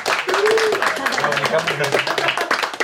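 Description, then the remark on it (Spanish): A crowd claps steadily for about three seconds, applauding a guest named one of the 100 most influential women in the world, a dense, loud patter of many hands, with voices calling out over the applause. “Entonces, denle un aplauso.”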